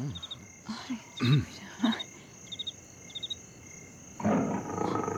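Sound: lion roaring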